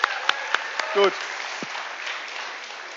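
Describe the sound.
An audience claps steadily for a few seconds, a dense wash of hand claps with a few sharper claps near the start, while a man says a brief word over it.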